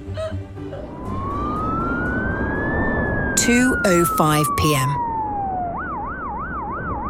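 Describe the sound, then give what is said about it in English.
A loud ambulance siren wails, slowly rising and falling, then switches to a rapid warbling yelp, over rumbling traffic noise while a voice speaks briefly. “So it turns out, if you have a mild heart attack, you can ride in an ambulance and be taken to a hospital as far north as she can go.”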